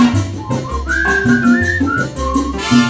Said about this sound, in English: Whistle high and whistle low.